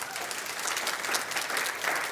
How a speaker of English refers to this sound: Thank you. That's a very polite round of applause.